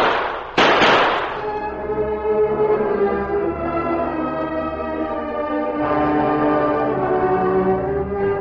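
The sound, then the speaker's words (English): A couple of sharp, loud gunshot bangs, fired as a distress signal, in quick succession, then a long, sustained ringing tone that fades slowly before swelling again. No one speaks. “I'll fire three now, three more later, and pray that someone's near enough to hear.”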